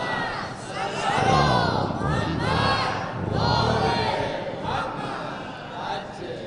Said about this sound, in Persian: گفتم دیگه اسم سوره رو ببرم شما فریاد درود و سلامتون بلند میشه.